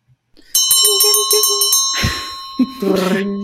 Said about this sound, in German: So, dann läuten wir so langsam die letzte Runde ein.